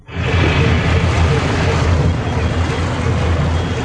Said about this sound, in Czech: No a my jsme v zachycování místního života přišli na takovou rybářskou loď a svezli jsme se s ní, když jela na lososy.